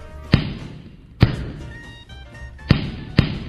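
A 15-year-old girl punches a sandbag with all her might: four heavy, dull punches smack into it at an uneven pace, loud, with a faint low background hum between the blows and no talking.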